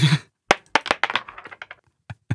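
A coin lands on a hard tabletop with a burst of sharp, bright clicks, bouncing and rattling in quickening, fading taps before two last small knocks as it settles. No one speaks.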